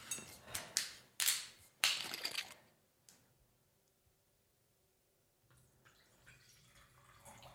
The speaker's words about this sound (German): Soll ich einschenken? Ja, bitte, gerne.